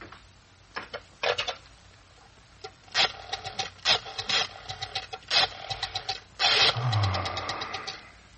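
A telephone being dialed to call a doctor about a patient, heard as several short bursts of rapid mechanical clicking separated by brief pauses, with a faint whirring rumble near the end and no one speaking.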